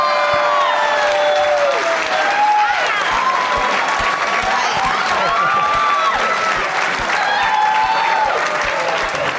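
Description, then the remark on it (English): A crowd applauds loudly and steadily for several seconds after the answer Gremlins 2, dense clapping mixed with whoops and high cheering voices rising over the noise. “It's the biggest applause Gremlins 2 has ever gotten.”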